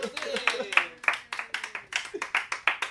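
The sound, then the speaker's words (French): A small audience claps steadily, sharp hand claps coming in quick, fairly even succession, with a faint voice murmuring underneath at the start. “Mais tabarnouche, on a un public!”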